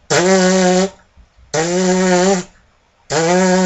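Three loud, buzzy brass notes at a steady low-middle pitch, each started with the tongue rather than the air as a buzzing exercise, with a crisp tongued attack and holding for just under a second, separated by short silences.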